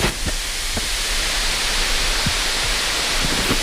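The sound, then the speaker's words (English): A loud, steady hiss of steam rising as water is poured on the hot rocks of a cooking oven layered with cabbage leaves, food packets, alder and ferns, continuous throughout with a few faint pops and crackles underneath. No voices. “The whole oven hissed with steam once the water hit the hot rocks.”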